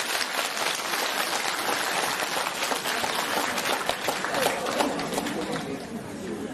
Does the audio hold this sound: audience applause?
yes